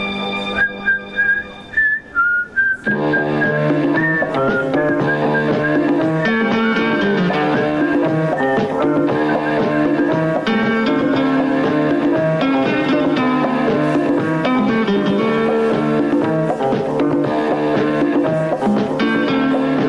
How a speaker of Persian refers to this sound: شنیدید تیتراژ سریال طلاق بود که ایشون ساخته بود. اصلا انتخاب بی نظیر به نظر من از ایشون برای همچین چیزی، همچین سریالی.